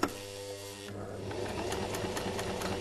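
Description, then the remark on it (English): A sewing machine starts up with a soft whir, then runs steadily, its needle rattling in a fast, even rhythm with no one talking, as fabric layers are sewn together to make three-layer face masks in Melbourne. “Now that I've got my layers, I'm going to put them together and I'm going to sew them.”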